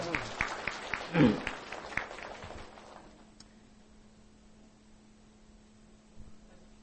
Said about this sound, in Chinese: 啊，为我们的姐妹们鼓掌，好不好？感谢主。